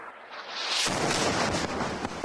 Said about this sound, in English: A news reporter from Hezbollah's Al-Manar TV is at a location in Nabatea, Lebanon, Sunday, holding a microphone when suddenly there's an explosion and the signal is lost.